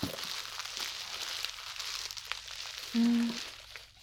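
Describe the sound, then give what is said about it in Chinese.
Steady crinkling and rustling of plastic packaging as a padded bubble mailer is handled and opened. A brief low hum cuts in near the end, and no one speaks. “寄件人还真细心呢，用气泡袋包得这么扎实，完全看不出来是什么。”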